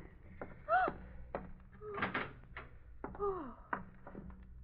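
A room door is opened: a latch clicks and knocks, hinges give short squealing creaks that bend downward, and a few soft thuds follow.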